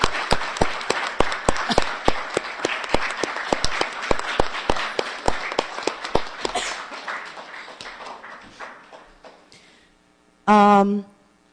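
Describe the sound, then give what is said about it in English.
An audience applauds the CCB's 79 years of work, clapping in a steady, rhythmic beat that gradually thins and fades over several seconds, followed by a short, loud, high-pitched whoop near the end. “So I think that first we need to give everybody, the CCB is each and every one of us, please, a huge applause for the 79 years of work we have done.”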